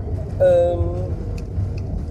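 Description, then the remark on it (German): Steady low rumble and airy hum fill a car interior as the air conditioning runs to cool it down, with a brief voice-like tonal sound near the start; otherwise continuous, moderately loud background noise without clear speech. “Ja, wie ihr hört, ich bin im Auto und könnte jetzt gerade noch ein bisschen laut sein, weil auch natürlich die Klimaanlage hier das Ganze ein bisschen runterkühlen will.”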